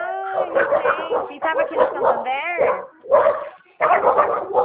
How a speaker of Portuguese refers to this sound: Ai, tem uma cachorrada aqui latindo. Tô escutando. Ele tá bravo, né, o cachorro?